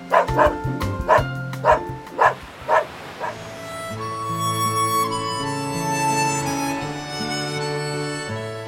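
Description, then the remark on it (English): A small dog named Fan barks sharply about seven times in a quick, steady series before the barking stops and soft music with sustained tones takes over. “One of the older boys, Gordon, even brought along his little dog, Fan.”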